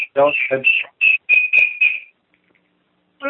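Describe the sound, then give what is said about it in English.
Parrot-like whistling: a rapid string of about six shrill, chirpy whistles lasting two seconds, loud and buzzy-edged, followed by a short pause and one more whistled burst. “Someone have a parrot or something here in their room?”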